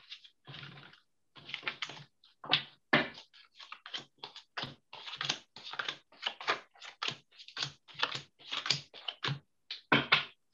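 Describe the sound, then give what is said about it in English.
A deck of cards being shuffled and cut, a long run of quick papery snaps and riffling bursts in uneven clusters, with no talking. “I heard you shuffling”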